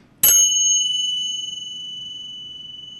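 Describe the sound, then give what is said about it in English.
A single bright metallic strike of tingsha cymbals, two small flat alloy discs joined by a leather strap and hit together, rings out in a Buddha ceremony around tea and beer tanks; its high shimmering tones sustain clearly and decay slowly with a gentle beating wobble, fairly loud, with no talking. “They start off with tingshaws, two small flat alloy discs with a leather strap in between that you hit and resonate together.”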